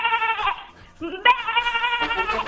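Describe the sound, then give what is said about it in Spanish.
A person imitates a sheep or goat bleat, producing two loud, quavering bleats with a shaky, wavering pitch, the second longer and drawn out. “¿Y me vuelve a hacer usted, por favor, el sonido de la oveja cabra?”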